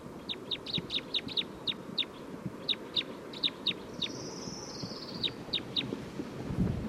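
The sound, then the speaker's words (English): A recorded bird, numbered 311 in a bird recording session, repeats short, high, sharp chirps in quick uneven bursts, some notes doubled, over a steady low rumbling background noise; a brief faint whistle slides in midway. “Recording bird 311 again.”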